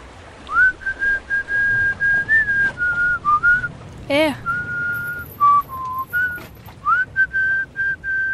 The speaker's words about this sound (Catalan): El que xiula. Jo? Sí, tu. Que xiules. És una cançó que em va ensenyar la meva mare. Me la cantava abans d'anar a dormir quan era petit.